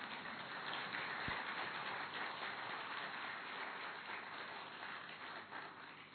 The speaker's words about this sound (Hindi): ताली बजाओ ना जरा।